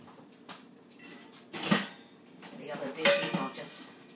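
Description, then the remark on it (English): Dishes and cutlery clatter and clink as a dishwasher is unloaded, in a series of irregular knocks, with a sharp loud clang in the middle and brighter ringing clinks toward the end. “The dishwasher from this morning.”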